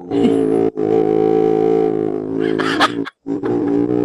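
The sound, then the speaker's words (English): A man imitates a deep, raspy growl, loud and sustained, breaking off briefly and then rumbling on before a short pause and a final growling burst. “They want to know how I growl, you know, sort of go. I go.”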